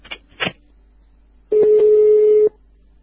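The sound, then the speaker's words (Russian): The number 02 being dialed on a telephone: two quick clicks, then a loud, steady, single-pitched phone tone that holds for about a second before cutting off. No voices. “Ты, папа, я сейчас 02 вызову.”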